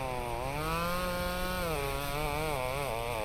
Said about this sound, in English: I'll cut up the tree first. Farmer Dre starts up his chainsaw. Then he cuts off the branches which have fallen on the tractor.